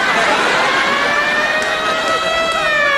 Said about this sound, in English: Oh, well, that siren means either it's the end of round three or someone's in the parking lot stealing my Eldorado.